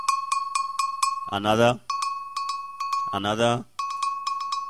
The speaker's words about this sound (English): we have a section which we call the engine room, playing different pieces of iron and steel, the brake drum from the motor cars. We tune them, so you have different tones, and when they play, somebody might just be playing...